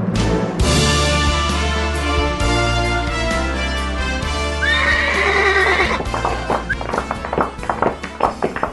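A horse whinnies loudly midway, then hooves clip-clop in a quick run of beats, all layered over continuous, full music playing throughout.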